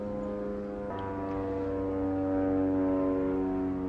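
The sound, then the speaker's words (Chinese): A small propeller airplane drones overhead, its steady, buzzing engine hum holding for several seconds and swelling slightly louder as it passes, with no one speaking. “我们上面飞过去一个小飞机哈”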